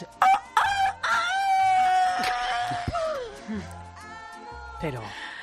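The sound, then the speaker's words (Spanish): A woman does a loud, drawn-out imitation of a rooster's crow, a long wavering cock-a-doodle-doo that rises and falls, followed by brief clucking-like vocal sounds. “Pero esto es lo que hacía …. Pero... Y tenemos que recordarla riéndonos, fíjate. Hacía el gallo maravillosamente.”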